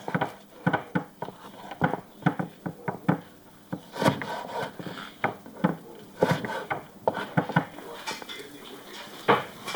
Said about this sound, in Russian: Положи еду в кастрюлю, пусть готовится.